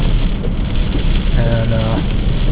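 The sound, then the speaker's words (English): Heavy rain, arriving like a wall of water, pours down in the Grand Tetons in a dense, steady hiss with a low rumble beneath it, loud and unbroken throughout, while a brief tonal murmur surfaces partway through. “So, only partway through the Grand Tetons, and the rain is coming down.”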